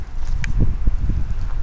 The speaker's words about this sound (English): I didn't know it was this windy.